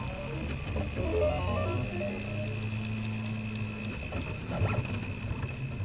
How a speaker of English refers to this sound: That's a Prusa 3D printer, making a face shield for hospital workers. A fine needle point is drawing layer after layer of hot plastic on a flat metal plate.